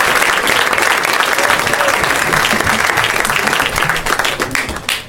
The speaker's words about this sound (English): Yay, yeah, keep clapping loudly into my ear.